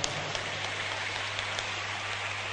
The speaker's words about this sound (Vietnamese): Nếu dễ làm thì các cháu hãy dành tràng pháo tay để tự khen ngợi mình.